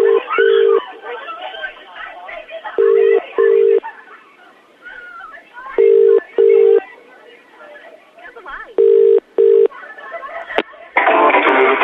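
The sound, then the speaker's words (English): A phone line ringing out with a double-pulse ringback tone, repeating four times at steady intervals over murmuring background voices, ending in a short burst of noise. “He's ringing Harry. If he answers, say the same thing.”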